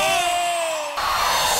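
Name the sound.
crowd shouting and cheering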